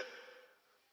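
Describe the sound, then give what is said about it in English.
A big, drawn-out yawn from one person, starting loud and breathy with a voiced tone, then trailing off into a quieter sigh over about a second. “Oop, that was a big yawn from ….”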